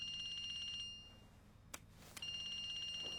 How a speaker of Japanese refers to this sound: ん？携帯鳴ってる？ 私のじゃないです。